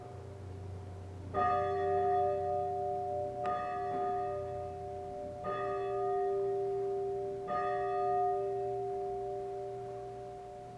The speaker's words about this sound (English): It is hard to miss and hard to ignore the sound of a church bell.